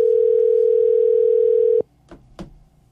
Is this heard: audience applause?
no